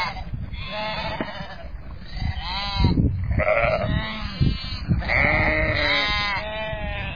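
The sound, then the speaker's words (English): Several sheep bleat repeatedly outdoors on the Craigantlet Hills, their wavering, nasal calls overlapping, with a steady low background rumble like wind across open ground. “As I'm standing up on the Craigantlet Hills and looking at the sheep, there's a verse of scripture comes to my mind.”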